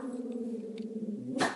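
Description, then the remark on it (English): A dog woofs: a drawn-out, tonal whining note that ends in one short, sharper bark, with no talking around it. “Although I'll have to edit out all the dog woofing.”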